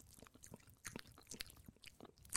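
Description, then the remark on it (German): A person, holding their breath, imitates a cat chewing with wet smacking and crunchy mouth clicks in an irregular rapid rhythm, fairly quiet, with no talking. “Das war aber gar nicht so einfach, nicht zu atmen und so ein Kaugeräusch zu machen.”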